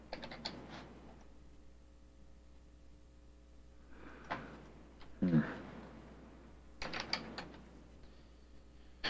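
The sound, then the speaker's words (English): Bursts of clicking and clacking computer keyboard keys come in three short clusters separated by quiet pauses, moderately loud, with a faint mechanical rattle. Nobody speaks. “as we sort of get going today, if my keyboard will cooperate.”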